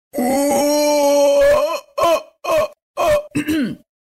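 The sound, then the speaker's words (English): A person imitates a howler monkey call: a long, loud, throaty roar followed by four shorter guttural bursts in a rough rhythm, harmonic and raspy, with no other voices. “Just a howler monkey, a small little howler monkey.”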